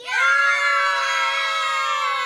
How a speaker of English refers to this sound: I'm going to count to three. When I say three, I want you to yell as loud as you can and then get quiet, okay? Okay, here we go. One, two, three.